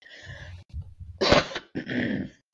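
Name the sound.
cough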